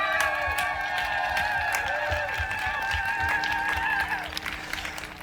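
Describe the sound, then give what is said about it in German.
A large outdoor crowd on Augustusplatz in Leipzig applauds steadily at the 30th CSD Leipzig. Dense clapping fills the space, with cheers and a sustained whistling tone riding over it before fading near the end. “was hier auf dem Leipziger Augustusplatz los ist, darf ich euch erstmal bitten, einen kräftigen Applaus von unserem Publikum einzufordern.”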